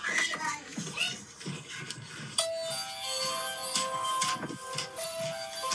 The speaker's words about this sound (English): Is that your doorbell?